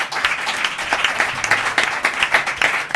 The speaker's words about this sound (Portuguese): Ese, ese merece un aplauso, ¿eh?